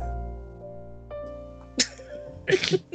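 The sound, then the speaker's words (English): A pet named Newt sniffs and snuffles at the microphone: one sharp breathy burst, then a quick cluster of noisy snorting sniffs over a quiet low hum. “That's right, have a good sniff.”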